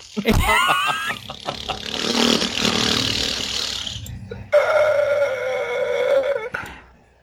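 A fart noise sound effect: a wavering, sputtering burst followed by a sharp restart into a long, steady buzzing blast that cuts off abruptly.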